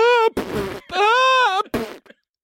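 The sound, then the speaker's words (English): A voice imitates someone sobbing and farting after watching the opening montage of the film Up: two high, wavering wails, each followed by a buzzy, sputtering burst. The sounds are loud and alternate quickly with no words spoken. “Like, it's sobbing and farting.”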